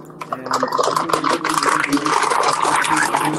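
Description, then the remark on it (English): Someone rummages in a fridge: a steady, busy stream of rustling, scraping and rubbing noises that continues loudly for a few seconds without pause. “What are you doing? What? Are you in your fridge?”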